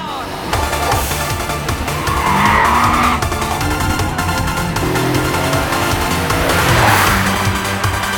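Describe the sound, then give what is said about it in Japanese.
A race car brakes hard into a tight, low-speed hairpin curve on a downhill road: loud tires squeal and skid while the engine's pitch sweeps up and down in one continuous stretch of about eight seconds. “こういった低速のヘアピンカーブはサンリーの得意分野だぜ。強力なブレーキできっちりスピードを落としてやれば。”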